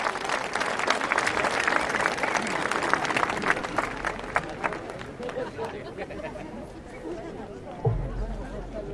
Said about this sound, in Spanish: Un aplauso, compañeros y compañeras.